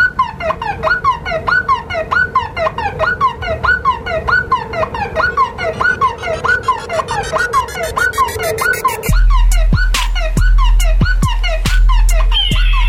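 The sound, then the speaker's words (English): A car alarm loops a loud, rapid warbling chirp for about nine seconds, then cuts abruptly to a series of sharp electronic pulses over a low, steady drone. “Got a request for the car alarm rejoin via the text.”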